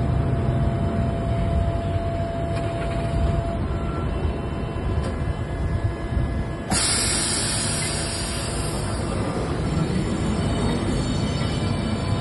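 A Lisbon tram rolls steadily along its rails with a loud rumble and clatter, and a bright metallic hiss or squeal swells partway through and continues to the end.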